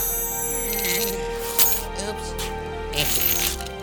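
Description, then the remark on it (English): Keys jingle in two short metallic bursts as they are handed over, a quick rattle followed by a longer shake, with voices and a steady hum in the background. “Here's the keys”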